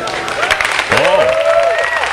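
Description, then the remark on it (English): A crowd at Steve Jobs's 2010 introduction of the iPad breaks into loud, dense applause and cheering, with whoops and a rising, sustained shout from one voice riding over the steady clapping throughout. “Listen to that raucous applause.”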